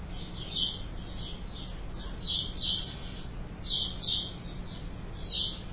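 Birds chirp and sing in repeated bright bursts, a few close together then pausing, over a steady low background hum. No one speaks.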